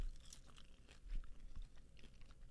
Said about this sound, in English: Y'all can hear us chewing on the radio.